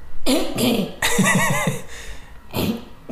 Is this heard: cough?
yes